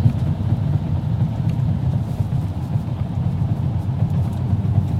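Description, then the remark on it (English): A car cruises along at a steady speed on cruise control, its engine and road noise forming a constant low rumble that never rises or falls, with no voices. “And we'll put it on a cruise control.”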